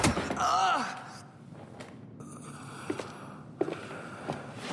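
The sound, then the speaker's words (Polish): A sharp, dull thwack of a blow with a rubber baton struck right behind the ear, with a brief strained vocal cry, then quieter scattered thumps and shuffling. “Nasi naukowcy ustalili, że uderzenie gumową pałką, które odebrałeś, dokładnie tu, za uchem, powoduje porażający ból, ale nigdy utratę świadomości.”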